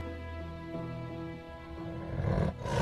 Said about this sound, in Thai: ทั้งเสือโคร่งและราชสีห์ต่างแผดเสียงเถียงกันลั่นป่า